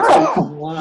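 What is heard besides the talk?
sneeze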